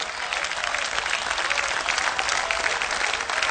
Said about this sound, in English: I like that hand clap, because that hand clap is serving.